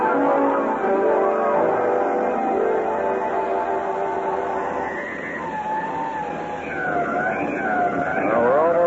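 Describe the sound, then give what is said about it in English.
A car engine rumbles steadily, then a police siren joins in, its wavering tone rising and falling over the traffic noise, loud through the second half, as a police car and an escort hurry to a cemetery. “Quickly, Stevens, a police car and an escort.”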